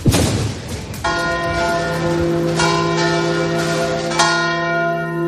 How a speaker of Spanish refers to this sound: No ha sido noticia que la UNESCO ha declarado el toque manual de campanas como patrimonio inmaterial de la humanidad.